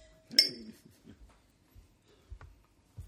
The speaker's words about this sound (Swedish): Ja, skål. Ja, cheerio. Ja, cheerio. Hej, hej. Ja, vi får klinga så här fint också.